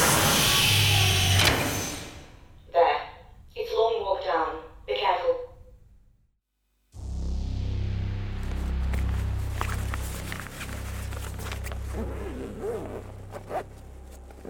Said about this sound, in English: I'm going to open the doors.